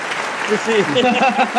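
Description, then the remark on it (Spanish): A crowd applauds in a steady, dense wash of clapping that fills the whole clip, with a voice talking over the applause. “Mira cómo aplaude la gente.”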